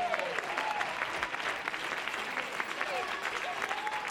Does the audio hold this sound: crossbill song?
no